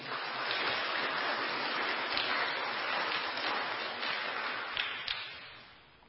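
A church audience applauds together to thank a sister for her testimony: a dense, steady wash of many hands clapping at once, sustained for several seconds and then tapering off toward the end, with no voices over it.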